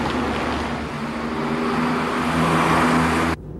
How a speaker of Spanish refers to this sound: Un coche pasa rápido por la solitaria calle.